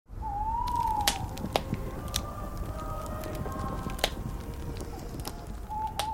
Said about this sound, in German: Ein schönes, gemütliches Lagerfeuer. Währenddessen werden Weihnachtslieder gesungen. Das Geräusch des Nachthimmels ist echt. Der Chor auch. Das Feuer aber nicht.